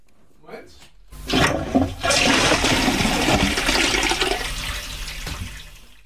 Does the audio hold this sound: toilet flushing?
yes